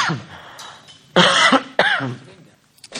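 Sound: cough and throat clearing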